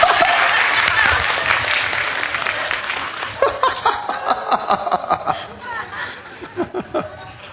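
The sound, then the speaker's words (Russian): A crowd bursts into dense applause that gradually thins into scattered, uneven claps, with some chuckling and laughter from the audience mixed in. “Похлопаем за них, браты. Сестры, не хлопайте. Это браты должны хлопать. А теперь за козлов похлопаем, сестры.”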